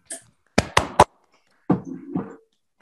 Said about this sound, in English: So let's all unmute to give him a round of applause for his great talk.